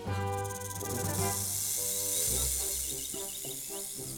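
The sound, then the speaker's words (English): A snake hisses in a steady, breathy rush that lasts several seconds, fairly loud over a bright background melody with sustained tones. “A snake is a small animal. It has got no feet.”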